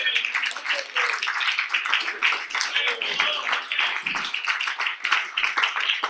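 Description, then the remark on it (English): An audience claps hands in praise, a dense, sustained wash of many overlapping claps at steady volume, with a few voices faintly mixed in. “Oh, let's give him a hand clap of praise tonight.”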